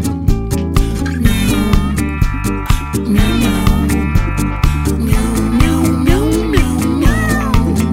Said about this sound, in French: Il dit qu'il veut sortir, mais que la chatière est bloquée. Dans la langue du chat, le mot miaou a diverses significations. Pour parler de chat, tout se fait dans la nuance et la prononciation.